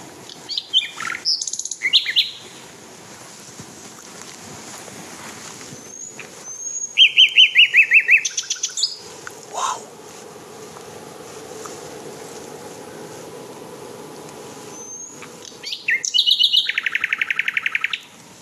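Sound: nightingale singing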